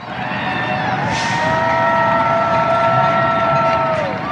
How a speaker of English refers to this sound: The shouts of New York residents cheering for essential workers. The nurses, healthcare professionals, or grocery store employees who risk their own health to keep critical operations running for everybody else. The banging of pots and pans,